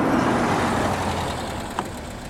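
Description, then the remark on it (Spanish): A car engine runs steadily at idle as the car is left at a garage for a check-up, a continuous low rumble that stays fairly loud throughout, with a brief faint click near the end. “Me gustaría dejarle el coche para una revisión.”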